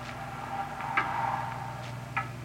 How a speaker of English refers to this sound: It's a loud clock, ain't it?